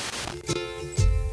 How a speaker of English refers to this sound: There's the static. Starting in the far left, 88.1 for those of you keeping track at home.